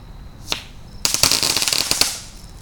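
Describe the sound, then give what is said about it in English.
A crackle bomb firework, also known as a glitter bomb, goes off: one sharp pop, then a dense burst of rapid, bright crackling snaps for about a second and a half before fading out. “So here's what a crackle bomb sounds like.”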